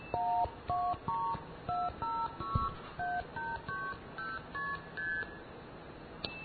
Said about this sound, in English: That's the famous 2600 hertz. The whistle, of course, can make 2600 hertz much louder, which is great because sometimes you have a really lousy connection and you need to be heard by the remote switch in order to seize the trunk.